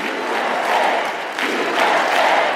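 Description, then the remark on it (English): A crowd of thousands applauds and cheers Eric Trump's speech attacking COVID vaccine mandates at an anti-vaccine conference at the Gaylord Opryland Resort in Nashville, Tennessee, a dense wash of clapping and shouting that holds loud throughout, with a brief dip midway before swelling again. “Some of his biggest applause lines came when he attacked the COVID vaccine mandates.”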